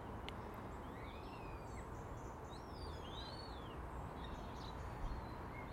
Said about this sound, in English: But there's more, much more bird activity this morning.